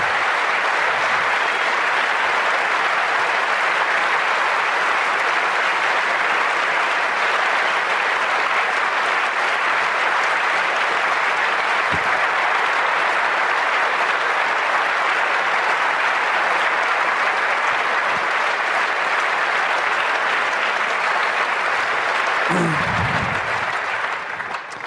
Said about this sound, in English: Yeah, and you know, if you start lists, just another clap to you, the one we forgot to mention.